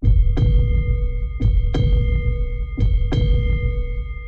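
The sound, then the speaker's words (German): A deep, booming heartbeat sound effect thumps in steady lub-dub pairs, three double beats over a low sustained hum, loud with no voices, in an advert for Kumbach mineral water. “Kumbach Mineralwasser präsentiert den Herzschlag des Allgäus.”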